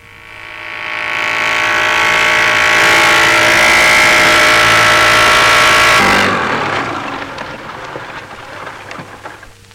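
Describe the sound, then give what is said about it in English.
A motorboat engine drones loudly and steadily, its pitch rising as it revs up, then cuts to a rougher, splashing wash of water and engine noise as it passes by. “You arim cry blo machine, come on soon.”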